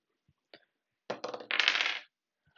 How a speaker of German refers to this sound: Auf jeden Fall würde ich dann einfach mal würfeln.